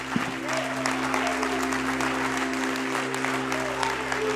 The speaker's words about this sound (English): And would you just clap your hands just a little louder, just a little longer, if you believe that He heard you?